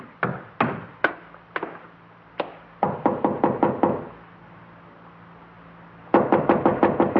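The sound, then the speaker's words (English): Knocking on a door, clear: a few slow raps, then a quick run of knocks, a pause with silence, and another fast, insistent burst of knocking. “When I got no answer, I tried the door.”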